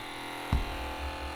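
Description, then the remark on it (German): A small portable cassette player, with headphones plugged in and a cassette inserted, is started: a sharp click of the button, then its motor buzzes steadily, a continuous electric whir like a tiny shaver, with no voices. “Und dann habe ich hier den Kopfhörer reingesteckt und die Kassette eingelegt, von der ich dachte, vielleicht ist das die.”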